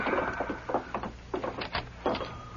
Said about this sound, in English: Open the door